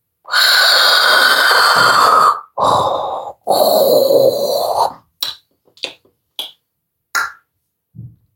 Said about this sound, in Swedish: Det var mörkt och tyst i huset, förutom mina föräldrars snarkningar och kluckanden från sovrummet.